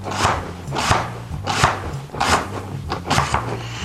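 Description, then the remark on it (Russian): A knife chops an onion half for soup steadily on a cutting board, about five broad thumping cuts in an even rhythm, clear, with faint low background hum and no talking. “Дальше мы ее берем и просто нарезаем.”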